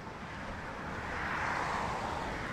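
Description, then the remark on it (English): A car approaches from behind a person walking, its broad tire-and-engine rush growing steadily louder and peaking as it passes on the right, with no voices over it. “There's a car coming from behind.”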